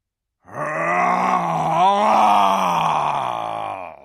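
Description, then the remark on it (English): A human voice imitates the roar of Aslan the lion: one long, loud, growling groan that holds steady for about three and a half seconds, swelling slightly in the middle before cutting off. “Roared Aslan, half rising from his throne, and his great mouth opened wider and wider, and the roar grew louder and louder”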